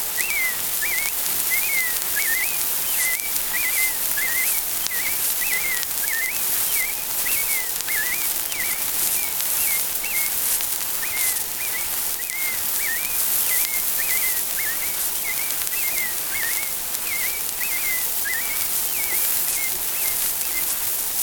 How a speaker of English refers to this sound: The American robin.